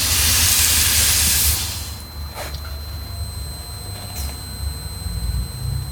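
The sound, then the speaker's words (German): Water rushes from a reopened main tap with a loud, harsh hiss for about a second and a half, then settles into a quieter steady flow broken by two brief squeaky whistles. No one speaks. “Und jetzt gucke ich mal hier, was das Wasser macht, meinen Haupthahn aufdrehen.”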